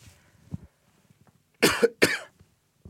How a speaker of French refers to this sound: Pardonnez-moi, j'ai toussé, nous sommes bien en direct, c'est la preuve que nous sommes en direct.